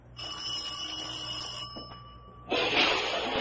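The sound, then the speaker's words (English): A doorbell rings with a steady, metallic electric tone for about a second and a half, then gives way to a louder, harsher rattling buzz. No one speaks. “Oh, I think this is the doorbell.”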